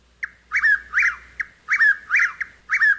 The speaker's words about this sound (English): The Chuck Will's Widow is a large brown bird in the nightjar family. It eats insects and sometimes small songbirds, which it swallows whole.